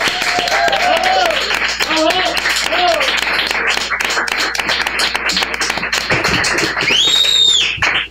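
A crowd applauds loudly and steadily for several seconds, with dense overlapping claps, scattered cheers and a few sharp whistles rising above the clapping near the end.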